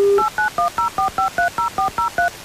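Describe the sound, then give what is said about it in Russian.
A brief dial tone, then a quick, even run of about eleven touch-tone keypad beeps as a mobile phone number is dialed, loud with no voices. “но вначале, конечно, наберем и услышим гимн.”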